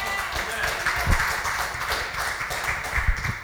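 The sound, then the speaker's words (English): An audience claps hands in a steady, dense wash of applause for a few seconds, with a few sharper claps standing out and voices mixed underneath. “Go ahead, clap your hands for the truth.”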